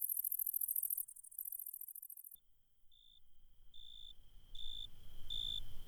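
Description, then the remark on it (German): An Italian tree cricket, a small, delicate and inconspicuous member of the cricket family, singing: a shrill, high insect buzz at first, then a steady tone broken into regular, swelling trilled phrases that grow louder, over a soft low background rumble. “Das Weinhähnchen, eine sehr unscheinbare Art aus der Familie der Grillen. Akustisch aber sehr auffällig.”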